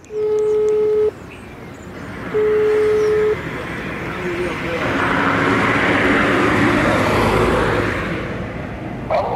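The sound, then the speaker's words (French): Train station ambience: two long, steady mid-pitched beeps, then a broad rumbling wash of noise that swells louder and holds, like a train moving through, with no clear talk. “Je viens d'arriver en fait, je suis à la gare là.”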